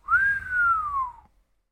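human whistling a tune

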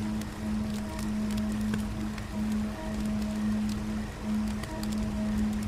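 flowing river current

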